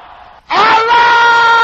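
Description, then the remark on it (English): A loud, sustained burst of many men's voices shouting a prayer together in unison, rising suddenly after a brief hush and holding strong, an audience crying out at full volume. “Brothers, can I hear you shouting that loud and clear?”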